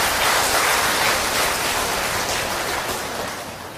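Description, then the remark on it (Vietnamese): A big round of applause from monks and nuns of the Buddhist studies programmes of Ho Chi Minh City, gathered on 20 November 2018 for Vietnamese Teachers' Day: a dense, steady crackle of many hands clapping that holds strong for several seconds and then tapers slightly. “có mặt hôm nay, ngày 20 tháng 11, 2018, thì tất cả các thầy, các sư cô, chương trình Trung cấp Phật học và Cao đẳng Phật học thành phố Hồ Chí Minh tề tụ về để chúc mừng Ngài Nhà giáo Việt Nam cho một tràng vỗ tay thật lớn.”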